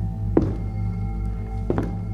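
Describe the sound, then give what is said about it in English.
Two dull, heavy footsteps come from the kitchen, landing about a second apart, slow and deliberate, over a steady low hum. No one speaks. “We started across the living room towards the door when footsteps came from the kitchen.”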